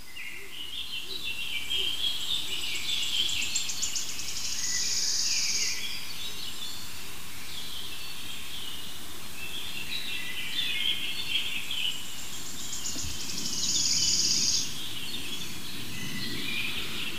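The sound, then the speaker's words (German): A bird calls with a repeated, fluty "dü-dü-dü" note series, two clear bursts several seconds apart, ringing out over a steady hiss of outdoor ambience with faint chirps in between. “Warten wir noch mal ein Dü-Dü-Dü ab.”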